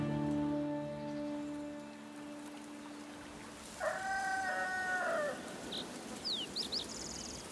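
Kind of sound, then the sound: bird, rooster crowing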